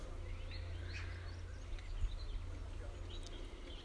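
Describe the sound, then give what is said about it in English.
Faint, scattered bird chirps and calls in a garden, half-buried under a steady low outdoor rumble that runs throughout. “Plenty of bird activity still.”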